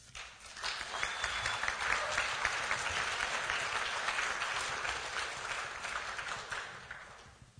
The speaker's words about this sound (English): It was a very controversial legislative session, so it's always nice to have applause when your name is mentioned instead of boos and hisses.